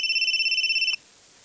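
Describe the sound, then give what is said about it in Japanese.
A mobile phone's electronic ringtone trills in a rapid, steady warble of high bright tones for about a second, then cuts off abruptly, leaving quiet room tone. “あ、俺の携帯。”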